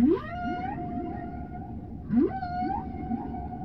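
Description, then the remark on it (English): Two long, eerie whale calls, each opening with a rising swoop that settles into a sustained, harmonic moan, heard over a steady low underwater rumble with no talking. “Hang on, it sounds more like a whale.”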